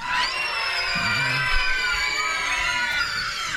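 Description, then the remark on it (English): An audience lets out a loud, sustained practice scream, many high-pitched voices imitating witches' screams together for a few seconds without a break. “We're going to need some help with some screams from the witches. You guys want to practice one scream?”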